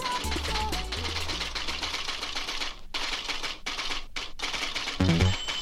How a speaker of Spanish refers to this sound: Ese ruidito es una máquina de escribir, por si alguno o alguna no sabe.